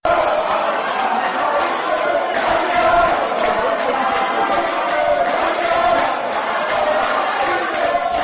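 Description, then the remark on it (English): MDC lawmakers shouting over one another in Zimbabwe's Parliament chamber during Wednesday Question Time, yelling across the floor that their MPs will not leave the chamber as attempts are made to eject them. A dense, steady din of raised voices that stays loud for the whole stretch without a break. “Chaos then ensued and attempts by Chinomona to eject MDC lawmakers like … and … were blocked by their colleagues who started shouting across the floor that the MPs will not leave the chamber.”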